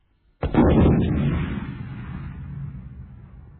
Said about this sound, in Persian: ناگهان صدای انفجاری شنیده میشه. همه چیز در ابری از گرد و غبار فرو میره.